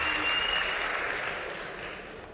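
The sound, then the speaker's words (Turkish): An audience applauds steadily, a dense wash of many hands clapping at a fairly even level that fades slightly toward the end. No one speaks over it. “Bence başarı kesinlikle alkış oranıyla doğru orantılı değildir.”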